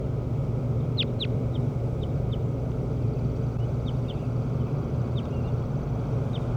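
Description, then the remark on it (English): A bird, number 17 of those being recorded, calls in response with a series of short, high chirps, two sharper ones early and then scattered softer peeps, over a steady low rumbling hum with no talking. “And 17 responded.”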